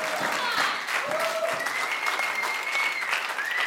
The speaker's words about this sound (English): Let's see if you clap the next one.